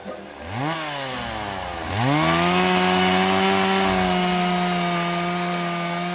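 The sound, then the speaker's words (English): A chainsaw revs up twice, then holds a loud, steady high-pitched whine as it bites into wood, continuous with no voices. “We know that we are losing our forests, the green lungs of our only home, faster than ever to chainsaws, trucks, and insatiable greed.”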